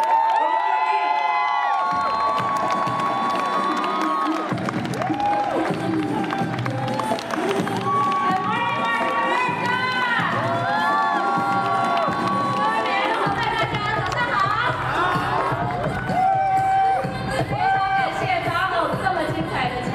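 A crowd cheers and applauds steadily for about twenty seconds, with scattered high-pitched whoops and shouts rising above a dense, continuous wash of clapping.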